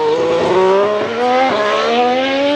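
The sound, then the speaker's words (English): A high-revving Formula One hybrid V6 race car engine, combined with electric motors and turbochargers, screams steadily with strong harmonic whine, pitch rising and dipping slightly as it shifts, loud with no talking. “Formula One now is actually a hybrid, and so they have a combination of electric motors, turbochargers, and a V6 engine.”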